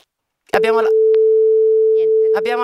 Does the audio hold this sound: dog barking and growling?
no